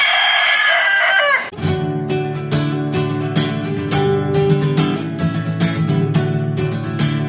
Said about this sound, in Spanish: El canto del gallo.